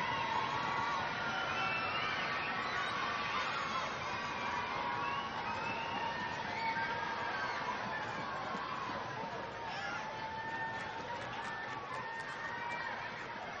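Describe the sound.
A large group of children at the Kinderuniversität (children's university) applauds and cheers steadily to thank the woman who runs it, a dense wash of clapping with high excited voices and shouts mixed in, sustained for the whole stretch.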